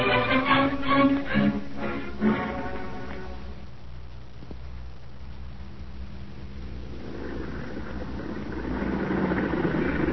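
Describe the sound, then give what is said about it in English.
A car engine idles with a steady low rumble throughout, a brief burst of higher tonal sound near the start, and the engine noise swells slightly louder toward the end. “You in that car! Drive on, no stopping here.”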